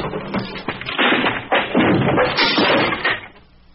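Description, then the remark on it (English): An axe smashes through wood in a rapid series of heavy, loud chopping blows, each crunching impact blending into splintering crashes before the noise dies away. “Dr. Palmer, you have the axe. Use it.”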